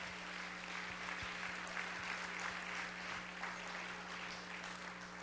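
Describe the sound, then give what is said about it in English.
Steady applause from an audience at the end of a service, given for three gentlemen: a dense, even patter of many hands clapping at a constant level throughout, with a low steady hum underneath and no voices. “Before we go into the end of this service here, I would like if we could just give our three gentlemen there a round of applause.”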